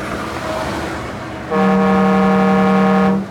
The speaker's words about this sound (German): Ich mache hier mal das Fenster ein bisschen auf und drücke mal aufs Horn. Ne? Jetzt wird es ein bisschen laut.